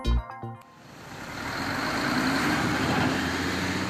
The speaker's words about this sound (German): Die Nonnendammallee in Berlin-Siemensstadt. Auf drei Spuren pro Richtung rührt und brummt der Verkehr. Direkt vorbei an den Wohnhäusern der Charlottenburger Baugenossenschaft.